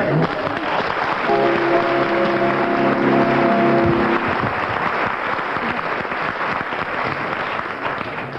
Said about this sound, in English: We'll judge this one on the volume of applause, having heard the volume of that applause.